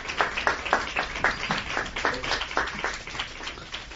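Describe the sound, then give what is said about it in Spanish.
Journalists applaud in a press conference room in tribute to Adolfo Suárez: a steady patter of many hands clapping together at a quick, fairly even rhythm, moderately loud and sustained throughout, with no voices. “Esos aplausos son aplausos dedicados sin duda a Adolfo Suárez y desde aquí queremos sumarnos a ellos.”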